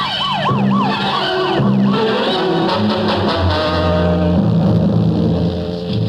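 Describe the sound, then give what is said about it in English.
A police siren wails in rapid rising-and-falling sweeps over the steady roar of a car engine, loud and continuous without any voices, the siren fading into the engine noise toward the end. “Get the gas and turn on the squealer.”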